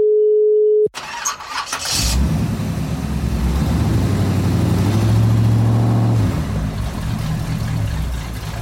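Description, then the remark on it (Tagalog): A brief steady tone and a click, then a car engine cranks and churns in a loud, continuous grinding rumble for several seconds without settling into a clean idle. No one speaks. “Nasiraan ka na ba ng kotse sa daan? Stress! Sira na nga ang kotse mo.”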